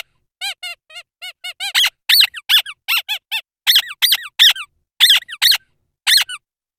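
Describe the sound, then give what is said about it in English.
A squeaky dog toy, played from a sample library called Atmaraf, is squeezed over and over: quick, thin, high squeaks at first, then louder, longer squeals in an uneven rhythm with short pauses, and no voices. “Don't know how you pronounce it, but if you have a dog nearby, it's probably going to get very excited, because this library is one of these.”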